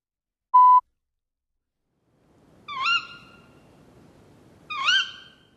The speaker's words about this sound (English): It was a bird. It eats fruit.